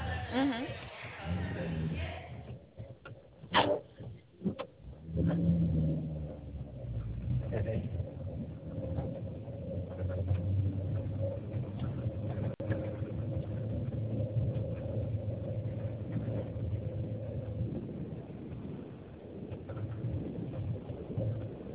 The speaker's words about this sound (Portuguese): Ah, vamos ver se eu consigo, que eu tô no carro aqui de copiloto.